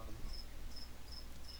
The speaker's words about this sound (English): The crickets are really... Man, they're going to make me start fucking drinking, dude.